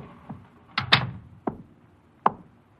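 An office door swings shut with a solid thump, surrounded by a few sharp clicks and knocks from the latch and handle. There is no talking.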